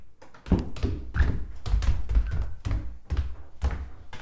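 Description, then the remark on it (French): The door of a home thuds shut as a person leaves, then a steady series of footsteps in slippers follows outdoors, about two steps per second, fairly loud with a gritty scuff on each step. No one speaks. “Le bruit de la porte. Là, vous entendez mes pas.”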